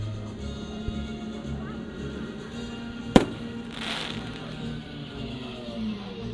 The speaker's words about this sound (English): We're waiting for another big explosion. That'll do.